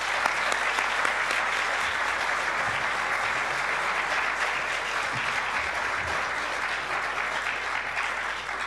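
Sustained applause from a large audience in a church, a dense steady wash of clapping that holds at an even loudness for several seconds with no speech over it, welcoming a guest speaker.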